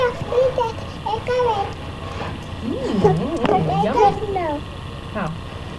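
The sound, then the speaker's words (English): A young child makes a growling, roaring vocal sound with wavering, sweeping pitch, imitating a lion, with short voiced bursts and some background noise. “A lion.”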